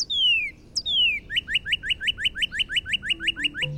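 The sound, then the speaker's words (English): A Northern Cardinal sings loud, clear whistles: two long downslurred notes, then a rapid, even series of short rising chirps repeated over a dozen times, alone with no talking. “The Northern Cardinal.”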